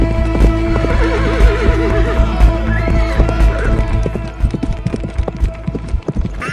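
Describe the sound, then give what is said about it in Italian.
An enormous grey warhorse, saddled and fully harnessed, that has broken free of its rope lets out a long, wavering whinny while its hooves clop in a quick, steady rhythm, the hoofbeats loud and continuing throughout. “Il cavallo di Francesco, fiammante, si è chissà come liberato dalla corda ed è venuto in soccorso del suo padrone.”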